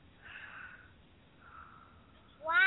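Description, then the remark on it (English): A cat makes odd, drawn-out whining noises, two faint wavering cries followed by a sudden louder, rising meow that is cut off at the end, with no one talking. “Doug's cat, the one that makes all that weird, funky noises and goes, wah, wah, wah, wah.”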